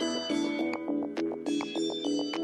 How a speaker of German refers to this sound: Und nicht nur das Aussehen des Synthesizers ist besonders, auch sein Klang. Egal ob himmlische Soundflächen, flirrende Arpeggios, drückende Bässe, oder helle Glockenklänge,